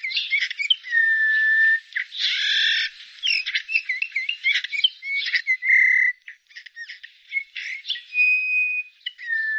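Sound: eurasian bullfinch calls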